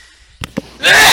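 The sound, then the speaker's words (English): A single loud sneeze: two quick sharp intakes of breath, then a bright, hissing burst that fills the upper range before cutting off. “Couldn't get to the mute button in time.”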